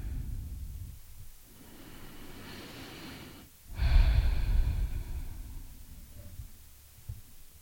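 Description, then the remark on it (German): Slow, deep breathing: a long drawn-in breath, a brief pause, then a fuller, louder exhale that fades out, with no talking. “Jetzt für diesen Moment bin ich hier und ich bin in diesem Moment und ich kann mich in diesem Moment sicher fühlen und ich kann in diesem Moment atmen und den Boden spüren.”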